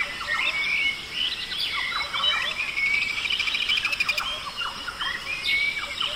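Birds chirp and sing continuously, with several overlapping calls, quick upward-sweeping tweets and trilling phrases at moderate volume against a soft outdoor background. No one is talking.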